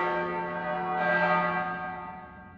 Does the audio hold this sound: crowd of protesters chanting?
no